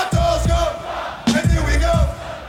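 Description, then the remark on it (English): A loud concert crowd roars and chants in a steady, rhythmic surge, voices shouting together in repeated bursts over a dense wall of noise, with a brief dip midway before the roar returns. “Listen to the crowd.”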